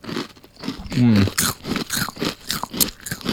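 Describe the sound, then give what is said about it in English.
Crunching of a crunchy snack like trail mix, a series of sharp, irregular bites and chews heard right at the microphone, loud and crackly over a few seconds. “One more crunch on camera. Sorry, on microphone.”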